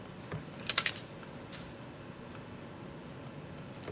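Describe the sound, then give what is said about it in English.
A short burst of keyboard typing, a quick cluster of crisp clicks followed by a few scattered keystrokes, against a quiet, steady hiss with no voices. “You're not seeing what you're typing.”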